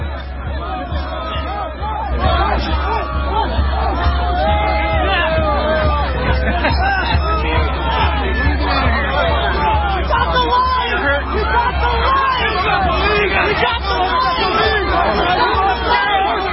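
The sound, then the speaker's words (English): A crowd of about 1,000 protesters trying to force through a police line and drive police off their motorcycles roars in a dense, continuous wall of overlapping shouts and chatter over a steady low rumble, swelling louder after the first couple of seconds and staying intense throughout. “So if you're a radio listener, it's probably 1,000 protesters, actually, trying to force through a police line and run the police out of their motorcycles.”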